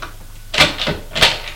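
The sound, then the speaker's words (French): A door in a silent house is opened: a few sharp latch and handle clicks with a short rattle, spaced unevenly over a second, with no talking. “Il va vers une porte.”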